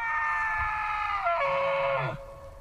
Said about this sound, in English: The sound of a Rocky Mountain elk bugling at dawn.